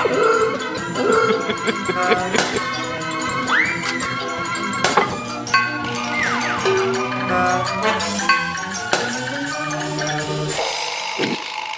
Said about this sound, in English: The smashing you hear is he has a stack of plates sitting next to him on the bench, and he throws them in the air to shatter.